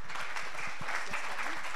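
An audience applauds steadily to welcome a speaker, a dense patter of many hands clapping together, sustained and fairly even throughout with no voices rising above it.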